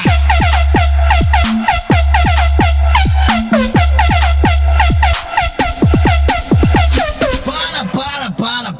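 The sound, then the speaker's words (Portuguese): A loud Volvo truck air horn blares in a rapid, rhythmic run of sharply falling blasts over a steady low droning tone, continuing nonstop for several seconds before turning rougher near the end. “Agora, deixa com o Volvo cabuloso.”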